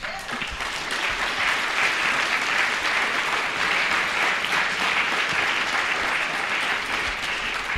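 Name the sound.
audience applause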